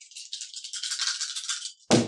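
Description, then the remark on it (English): Dice rattle and clatter steadily for nearly two seconds, a bright clicking rumble, then end in a sudden heavier thump as they land. They are rolled as a listen check with two disadvantage dice. No voices. “make a listen check with two disadvantage dice.”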